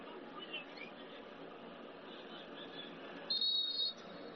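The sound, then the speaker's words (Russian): Referee Szymon Marciniak's whistle gives one shrill, steady blast lasting just over half a second during an Italy versus Switzerland football match, as Switzerland makes a substitution, cutting through the constant roar of a stadium crowd. “Свистит Шимон Марчиньяк.”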